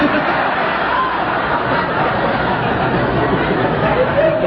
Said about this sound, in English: I was privileged to share an AA experience up there in the state convention in Alaska about a year or so ago. And well, gee, don't cheer about that. It wasn't that hot.